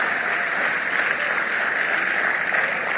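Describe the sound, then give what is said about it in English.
An audience applauds steadily for a few seconds at a church service celebrating its founder, Bishop Dagwood Mills, on Sunday 19 May, Pentecost Sunday. It is a dense, even wash of many hands clapping at once with no voices over it. “It's a good place to clap.”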